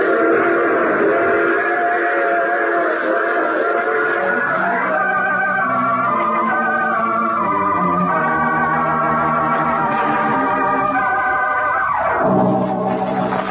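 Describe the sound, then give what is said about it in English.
A train rumbles steadily while a loud, drawn-out whistle sounds through the middle, its pitch sliding and wavering before dropping away near the end. No voices. “You see, I take the same train every week at this time.”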